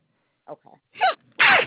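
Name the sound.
a sneeze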